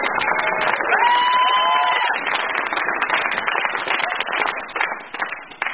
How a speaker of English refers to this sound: Come on, one cheer for Lord Bouncy. Hooray!